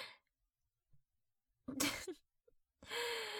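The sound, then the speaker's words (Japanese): Heavy, breathy exhales come in a couple of loud, noisy bursts separated by short pauses, like someone panting hard. No one speaks. “はぁはぁ、しすぎっしょ。”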